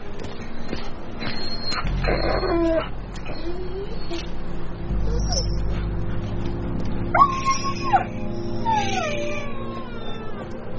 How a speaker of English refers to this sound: It's the Whartons' dog. Not gonna make it.